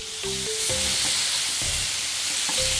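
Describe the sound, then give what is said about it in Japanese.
Ginger-pork-cut pork slices for a pork sauté with apple sauce sizzle steadily in a single frying pan over fairly high to medium heat, a dense crackling hiss, with a few low clunks and scraping sounds as the meat is moved around. No one speaks. “ちょっと中火ですけども、であんまり、焦げるくらい焼かなくても、また後からこのリンゴソースの中に戻してもう一度絡めますので、もう簡単にあっという間に焼きますよ。フライパン1枚でできます。”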